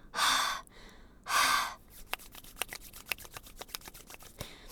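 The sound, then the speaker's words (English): Two long, forceful breaths blown onto numb, cold fingers to warm them, followed by a quick run of small light clicks and rustles. “I'm breathing on them. That's what you're supposed to do, isn't it?”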